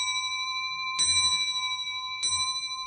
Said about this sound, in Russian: И вот к тому небольшому периоду его часовой деятельности относятся, видимо, и наши часы. Бьют часы Бомарше.